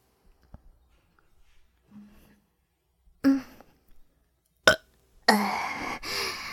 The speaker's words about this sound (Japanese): んじゃ、今日はゲップたーくさん聞かせてあげるからね。